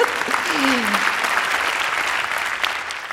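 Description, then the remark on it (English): Steady applause from an audience, a dense, even wash of many hands clapping that holds at a fairly loud level throughout, with a brief voice briefly audible near the start. “Yes, clap for that.”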